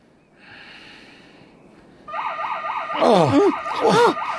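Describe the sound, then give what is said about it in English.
A house burglar alarm suddenly starts up after a quiet hum, blaring a rapid, warbling electronic tone with loud swooping wails layered over it, insistent. “it's the alarm. It's the alarm. Oh, no. Hell. Brian, somebody's broken in.”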